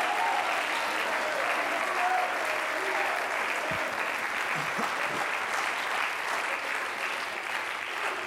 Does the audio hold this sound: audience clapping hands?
yes